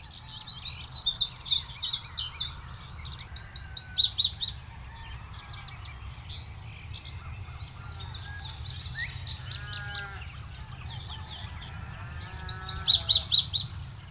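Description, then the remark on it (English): Bright, high-pitched bird songs ring out in repeated bursts from several birds in open grassland country, with trills and chirps rising over a steady low rumble of wind or ambience. “These songs of open grasslands celebrate sun and heat and life in the open country.”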